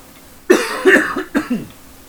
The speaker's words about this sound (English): And I cough while I'm holding the martini.